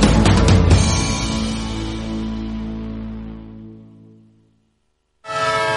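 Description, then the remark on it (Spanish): The horn of a departing train sounds loudly over rumbling noise, its sustained tones fading steadily over several seconds, then a brief silence before another loud burst of sound starts. “Un tren que se va.”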